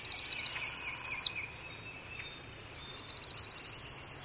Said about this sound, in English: A northern parula, some say parula, still others perula, sings its rapid rising trill.